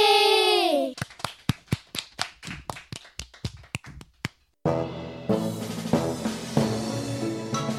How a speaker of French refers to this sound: Applaudissez.